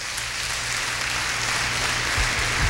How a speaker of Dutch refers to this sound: Als u dat gelooft, geeft de Heer een daverend applaus.